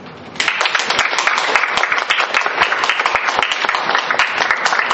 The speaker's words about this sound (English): I really would like you to give yourselves a round of applause.